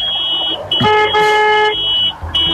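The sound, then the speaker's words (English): The horn of a white Southern Self Drive minibus honks once in a loud, steady blast lasting about a second, bright and brassy, while a thin high-pitched whine continues through the whole clip. “Let's hear your horn, Donna.”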